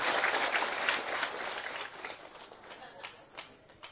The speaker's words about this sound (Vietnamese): Xin quý vị dành được tràng pháo tay.